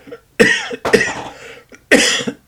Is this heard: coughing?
yes